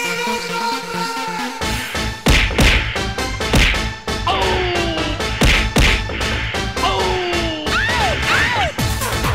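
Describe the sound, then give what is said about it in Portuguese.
The Mortal Kombat theme plays as fight music on a show, loud and energetic, driven by heavy, punchy percussion hits and sustained synth tones, with sharp upward-gliding yelps cutting through in the second half. No one talks over it. “Ó, vamos deixar a música do Mortal Kombat aqui, porque vai rolar um fight.”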